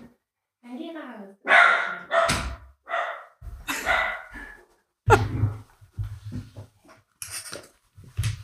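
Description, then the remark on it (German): A dog barks repeatedly in loud bursts, mixed with a person's voice talking over it and a dull thump partway through. “Mein Hund musste aussprechen.”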